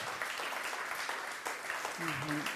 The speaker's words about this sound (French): Alléluia, ouais, merci, on peut applaudir le Seigneur, c'est vrai, pour qu'il se fait, le Saint-Esprit pour ce qu'il fait.